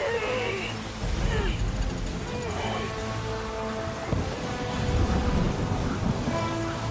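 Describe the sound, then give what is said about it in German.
Steady, dense rain roars over a stormy sea around a sailing ship whose crew is riding out the storm, with low rumbling surges and crashing wave swells. Tonal shouting or wind whistles rise faintly above the continuous wash. “Wir wettern diesen Sturm ab, so gut wir es können!”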